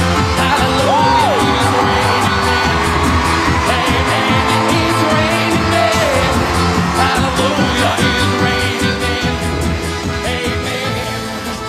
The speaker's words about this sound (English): So this is the moment where that audience at America's Got Talent stands up and applauds in the auditorium, I bet.